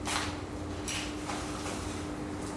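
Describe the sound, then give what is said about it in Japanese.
Steady fizzing hiss as small-shrimp kakiage is dropped into liquid, with several brighter crackling bursts popping up irregularly over a constant low sizzle. No one speaks. “これをね、入れます。これね、シュワッシュワッって音がするんですよ。”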